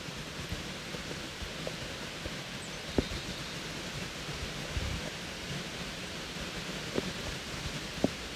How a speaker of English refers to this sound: It was raining a tiny bit